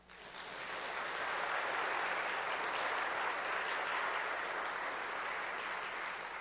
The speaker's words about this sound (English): Friends, we've taken this time to meet our neighbors. I invite you to give our neighbors a round of applause.